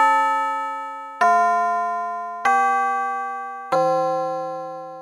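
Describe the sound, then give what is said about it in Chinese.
A school bell chime marking the end of class rings out four clear, resonant tones at different pitches, evenly spaced about a second apart, each note ringing on and slowly fading, with no voices. “下课钟声一响，袋鼠老师就让大家到教室外面玩。”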